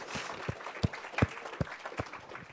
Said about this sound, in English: Aha, that is awesome. Let's give these guys a hand clap.